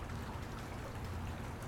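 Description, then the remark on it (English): Water runs steadily with a soft, continuous rushing and trickling, fairly quiet and unchanging throughout, with no voices present. “God, all this water is making you wet real quick.”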